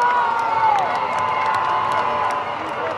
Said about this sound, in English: This was the reaction of the crowd when Guaido arrived. As you can hear, that's a peaceful crowd